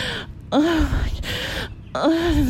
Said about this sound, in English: I'm not even moaning anymore. I'm just fucking breathing.